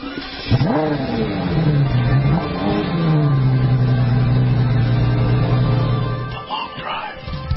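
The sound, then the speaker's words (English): The engine of a brand-new Mercedes-Benz E63 AMG luxury car revs up sharply, dips, then holds a loud, steady drone for several seconds before cutting off, with a brief rumble at the end. “Mercedes' brand new E63 AMG is a velvet hammer, a luxury car with the heart of a sports car.”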